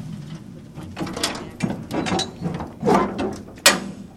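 A series of metallic clunks and rattles as the door of a metal storage container at Pine Street is unlocked and handled, ending with a sharper clank. Irregular mechanical knocks, moderately loud, no voices.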